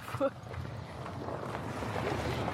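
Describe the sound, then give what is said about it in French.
Traffic passes as a steady low rumble that swells slightly toward the end, with a brief louder thump early on and some wind noise mixed in, near the federal wharf at Tête-à-la-Baleine. “Là, il y a du trafic, là.”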